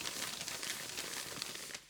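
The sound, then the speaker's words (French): Steady crinkling and crumpling of paper, a sound effect for leaves blown in a storm, continuing without pause for about two seconds with no voices. “Ensuite, des feuilles arriva sur Monsieur Roger.”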